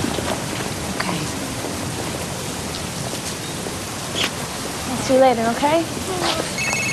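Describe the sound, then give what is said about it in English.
Steady rain hisses and patters throughout at an even level as a mother and daughter walk in it, with a brief voice speaking over it near the end. “Mother and daughter walk in the rain.”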